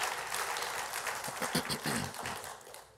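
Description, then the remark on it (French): A church audience at Le Sentier in Gatineau claps steadily throughout, applauding the Lord for their church: a dense, fairly loud patter of many hands, with a few voices rising and calling out over the applause. “Oui, applaudissons le Seigneur pour notre Église, le Sentier qui s'implique, qui se mouille.”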